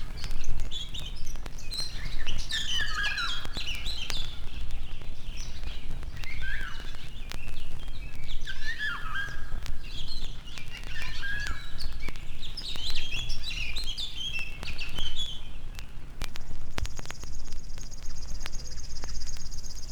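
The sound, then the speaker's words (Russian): Fluting, melodious song of a Eurasian golden oriole, repeated in short whistled phrases over steady outdoor background hiss; near the end a thin, continuous high buzz sets in. “Наша иволга не уступает им.”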